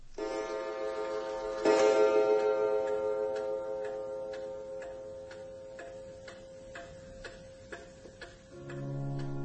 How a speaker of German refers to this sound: Das Geräusch der Standuhr ist vom Eingang der Gasse zu hören. Es ist 2 Uhr an einem Sonntagnachmittag.